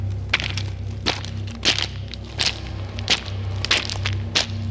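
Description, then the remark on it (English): Steady, evenly paced footsteps strike a hard street beside a line of stores in fog, each step a sharp, moderately loud, echoing tap, about seven in all over a constant low background hum, with no voices. “All I could hear was the sound of my footsteps echoing back.”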